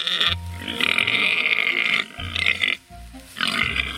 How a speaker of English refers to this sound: For some of the scale of the Indominus, we used very large sows, these huge pigs. And at feeding time, the pigs get very aggressive and they bark and squeal.